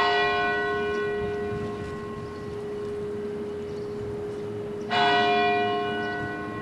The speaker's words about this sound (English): It's been a year since two bombs exploded near the finish line of the Boston Marathon. This afternoon, the city observed a moment of silence to mark the blast. It was followed by the ringing of a church bell.